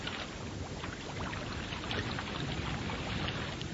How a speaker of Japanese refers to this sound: 波の音聞こえるでしょうか。ララミューのね、あの西側のところにやってきました。穏やかな時の波の音はこんなに静かで心地いいんですよね。